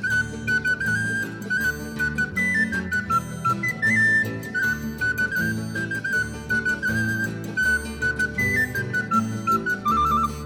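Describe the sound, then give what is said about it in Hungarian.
A person whistles a bright, wavering tune imitating a great tit's song, carried steadily over a full instrumental backing with a strong bass beat, fairly loud throughout. “Nyitni, de nyitni, de nyitni kék, fütyülöm én is énekét.”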